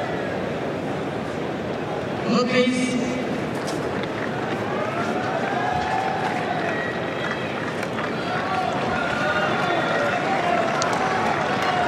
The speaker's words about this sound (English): The murmur of the crowd, what they're witnessing, what they're seeing. No one's going to leave, and they've still got another semi-final to come.